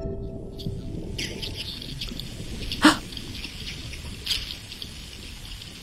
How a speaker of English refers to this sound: The typical sound. Yeah. Yeah. The whole box was just singing of these sounds. It was just incredible. It was just this cacophony of herring.